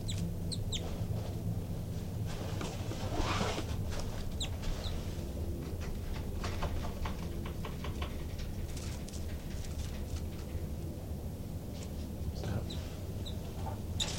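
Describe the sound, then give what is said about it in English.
Agitated birds call close by in a steady stream of clucking chatter and sharp chirps, over a constant low rumbling background, with no talking. “Recording that disturbed the birds quite a bit, and the two new babies pop out of the nest and they're climbing the screen now.”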